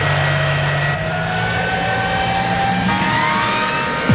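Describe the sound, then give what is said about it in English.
A loud drag racing car engine roars steadily on its third and final run, then its pitch climbs sharply as it revs and launches, staying dominant throughout with no voices. “For the last time, start your engine and keep your eyes on the Christmas tree.”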